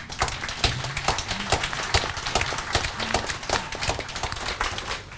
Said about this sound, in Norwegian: La oss klappe for de to.